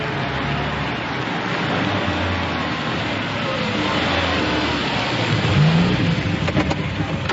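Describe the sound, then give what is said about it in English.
A car engine hums steadily as a car with a driver, arranged to take a passenger to an address, drives along, with a constant wash of road noise and a slight swell in engine pitch toward the end. “We've arranged for a car to take you there.”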